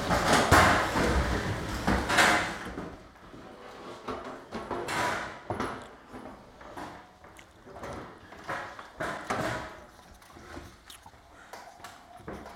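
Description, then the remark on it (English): Chairs being turned around by the audience scrape and thump across the floor in a loud, irregular clatter that starts heavy and continues in scattered bursts of knocks and scuffs, with no clear talk over it. “If you want to turn your chairs, you guys can do that and be comfortable.”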